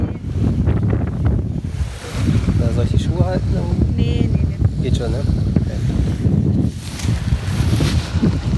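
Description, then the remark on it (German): Strong wind roars and buffets the microphone nonstop on a rainy beach, with surf rumbling beneath it, while a few people talk briefly. “So, es ist wirklich sehr windig, sehr regnerisch.”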